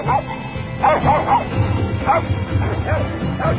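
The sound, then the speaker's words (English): Several dogs bark and yip in quick, overlapping bursts, with a few higher whimpering yelps mixed in, over a steady low background rumble. “Gunfire, dog fights, or what have you.”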